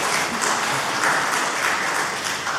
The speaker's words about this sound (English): A round of applause for their obedience.